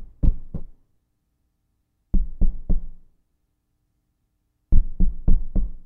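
Three bursts of knocking on a door, two quick raps, then three, then four, each group separated by a pause of silence. The knocks are solid, with no voices.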